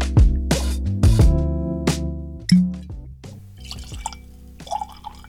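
Havana Club rum is poured into a glass: a few hollow glugs and glassy clinks, then a softer splashing trickle of liquid with light drips. No one speaks.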